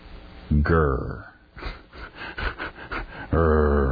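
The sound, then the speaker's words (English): A man growls in a low, rough, loud voice: two sustained snarling growls with a stretch of breathy, raspy huffing between them. “I'm growling.”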